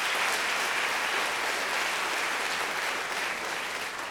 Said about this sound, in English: Please clap if you think that was Sam Alito. Please clap if you think that was Margaret Atwood.